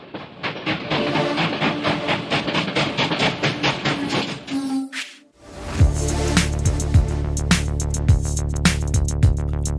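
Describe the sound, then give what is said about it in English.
A train rumbles along the tracks with a fast, rhythmic clickety-clack, then briefly goes quiet before a steady heavy drone with sharp periodic clacks of wheels over rail joints. “On aboard the choo-choo train!”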